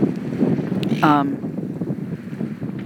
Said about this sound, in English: I'm sorry, it's really windy. I hope this isn't sort of going to be crazy. I'm trying to protect the mic as best I can.